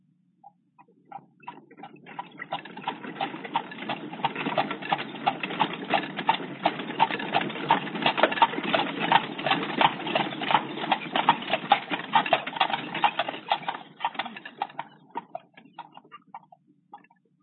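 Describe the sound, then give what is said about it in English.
Steady clip-clop of horses' hooves, a brisk regular rhythm that swells in over the first seconds, holds fairly loud, then fades away near the end. No voices. “And the sounds of horses' hooves.”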